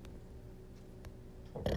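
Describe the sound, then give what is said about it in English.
A low, rumbling burp drawn out for over a second, fairly quiet, swelling into a louder, rougher push at the very end. No one talks over it. “Sorry for the burp.”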